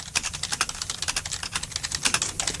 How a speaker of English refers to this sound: I can type with two fingers, but I can type still fast with two fingers.